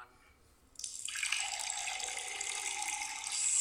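After a brief quiet moment, cold water begins pouring in a steady, bright splashing stream that holds at an even level and swells slightly toward the end, with no talking.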